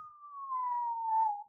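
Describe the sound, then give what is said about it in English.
A person whistles one sustained, gently falling note for about a second and a half, imitating a smooth stone slung through the air. It is clear and steady, with no talking. “He throws this stone, and I don't know if there was silence in the crowd as this smooth stone whistled through the air.”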